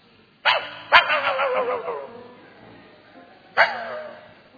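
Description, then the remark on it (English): A dog named Skippy barks: two quick, sharp barks, then a pause before a third. The barks are fairly loud, with no talking around them. “And anytime something is passing, Skippy could only bark.”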